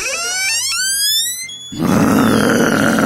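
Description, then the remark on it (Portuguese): A person imitates a growling dog judging a suitor entering the room, starting with a rising, strained whine that breaks into a loud, rough, raspy growl held for over a second. “Mas, por exemplo, vamos supor, eu vou simular que eu sou o cachorro, o tiozão é o pretendente da moça, eu vou avaliá-lo ao entrar na sala.”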